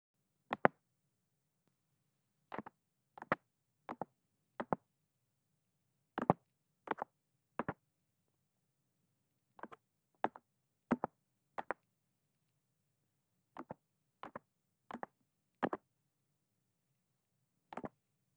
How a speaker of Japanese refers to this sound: そんじゃ、仕上げのお耳ポンポンね。このタッピングがうまく取れてるかは、結構気になるとこだな。よし、んじゃあ、いくよ。トントン、トントントン。